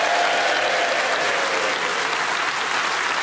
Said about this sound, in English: you've got your round of applause, but congratulations to our joint winners, Tony Hawkes and Paul Merton. Yeah!